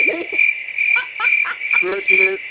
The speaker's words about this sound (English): Crickets.